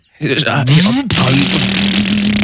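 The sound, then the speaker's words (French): A voice imitates a motorcycle engine, revving with a rising pitch, a brief break, then settling into a steady, droning buzz held loudly to the end. “Vas-y, je prends ma moto mécanique et j'arrive.”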